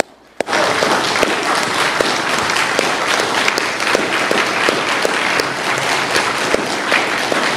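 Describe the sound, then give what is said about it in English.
A large crowd at a sermon breaks into sustained applause in appreciation for mothers, many hands clapping in a dense, steady wash that starts abruptly and holds at full volume throughout. “And so can we all show some applause and appreciation for our mamas?”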